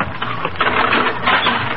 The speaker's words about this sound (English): he smashed the dummy.